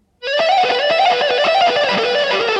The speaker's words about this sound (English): Bounce the ebow every now and then for accents. Using distortion with the ebow yields interesting results.